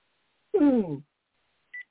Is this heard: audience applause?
no